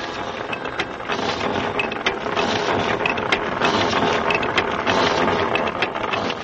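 A rotary well drill runs steadily as it is sent deeper into the ground, a dense, loud mechanical clatter and grinding with rapid irregular clicks and rattles over a constant low rumble, with no voices.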